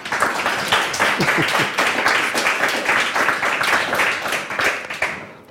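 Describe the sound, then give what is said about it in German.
A crowd applauds the guests steadily for several seconds, a dense, even patter of many hands clapping, holding loud throughout before tapering off at the end. “Bitte nochmal einen Applaus für meine Gäste.”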